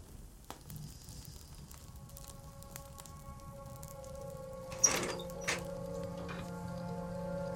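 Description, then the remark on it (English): A wood fire of small pieces of wood, lit by a man in uniform, crackles and pops steadily in a stove over a low hum, then two sharp clunks ring out as he shuts the stove's small circular door, in Aleppo City, Syria. “A man in uniform places some small pieces of wood into a stove and sets light to them.”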